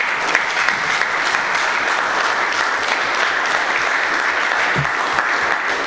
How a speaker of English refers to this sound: Again, I would like to publicly thank all of the staff who helped participate, put on, be part of how Cleveland Metro Park celebrated its birthday this past Sunday. Let's give everybody a big round of applause. Yes.